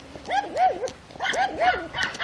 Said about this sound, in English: And then, of course, I have yapping dogs.